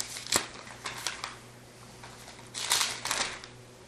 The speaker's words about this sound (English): I love to hear those pages turning.